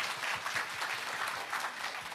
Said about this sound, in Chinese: 哎，拍手把荣耀归给主好不好，大声一点大声一点。